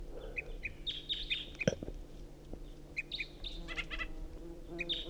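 A songbird sings in bright, high repeated chirps and short trilled phrases, coming in bursts with brief pauses, over a low steady background hum and a few faint clucks.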